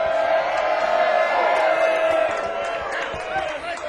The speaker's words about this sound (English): But before we do so, we need to give a big round of applause to our front of house,